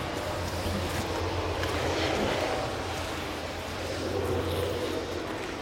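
A train rolls past, a steady, loud rumble with a low droning hum and broad rushing noise that holds constant throughout, with no one speaking.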